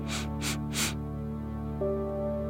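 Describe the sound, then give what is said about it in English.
Three quick, breathy nose sniffs with the nose scrunched, taken as a calming breathing exercise, in a steady rhythm and fairly loud, over a soft sustained musical drone that continues after them. “Scrunch up your nose and three sniffs.”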